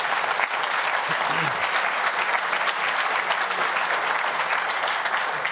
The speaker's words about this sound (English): This is our team. I think these guys also love applause.